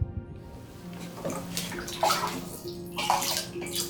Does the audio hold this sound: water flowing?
yes